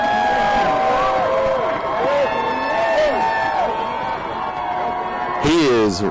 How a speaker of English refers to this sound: And I hear the crowd cheering him.